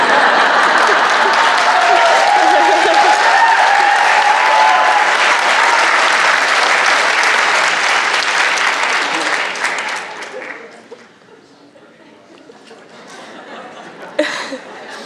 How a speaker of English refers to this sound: It feels good to hear the audience applaud.